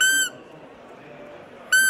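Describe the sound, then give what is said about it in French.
Two short, high-pitched whistling squeaks of a roe deer doe calling the male, made with a call used to attract the buck, clear, separated by about a second and a half of quiet background hiss. “Ça, c'est chevreuil. Ça, c'est la femelle qui appelle le mâle.”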